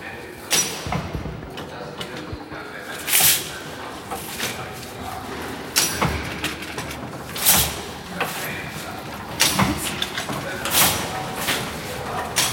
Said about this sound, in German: Also die Maschine sieht ein bisschen aus wie eine Druckerpresse und setzt sich jetzt gerade in Bewegung und wir hören die Kettenräder und das Hoch- und Runtergehen der, wie nennst du diese Dinge, die hoch- und runtergehen? Das sind die Nadeln.